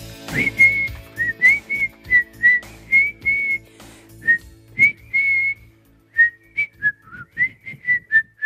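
A person whistles a lively tune, a steady run of short, bright notes with brief pauses between phrases, fairly loud, with no one talking.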